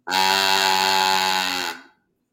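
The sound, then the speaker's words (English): A cow ball noisemaker toy, used for making animal sound effects, played in a barn, gives one loud, buzzy, sustained moo lasting under two seconds at a fairly steady pitch, then trails off quickly. No one talks over it. “So this one is a cow ball.”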